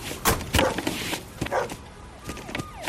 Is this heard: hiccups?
no